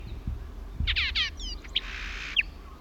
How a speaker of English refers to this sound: Horsefall Blackbird, Isla Victoria, 13th December 77.